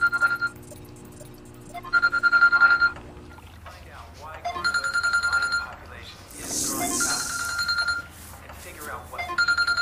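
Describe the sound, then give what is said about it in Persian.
A woman's telephone rings in repeated electronic bursts with short pauses between them, loud, over a faint background hum with a brief hiss of noise midway. “این خانم دم به ساعت تلفنش زنگ میخورد.”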